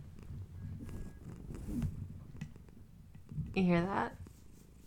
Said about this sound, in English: I have a cat on the bed, and she's upside down. She wants belly rubs, and she's purring, so I can't really do what I was planning on doing. I want you to hear this because this microphone picks up everything.